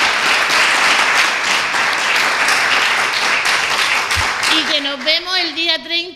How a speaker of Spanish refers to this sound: Aplausos.